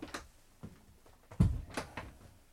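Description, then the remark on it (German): A door is pushed shut with a solid low thump, preceded by a few light clicks and rattles of the handle and latch, moderately loud, with no talking. “Ich mache die Tür zu.”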